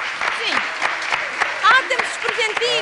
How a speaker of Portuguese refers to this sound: Muito obrigada, um grande aplauso, obrigada. Muito obrigado.